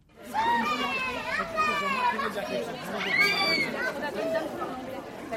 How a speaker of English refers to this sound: It's the last day of school and there's quite a crowd of little kids and parents here outside the primary school in Villemomble, and there's one extra person here.